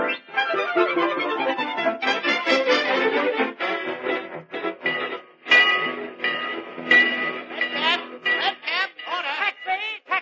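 A train at a busy railroad station, with rumbling, clattering bursts and shrill whistle-like tones, fairly loud, with faint voices mixed into the bustle.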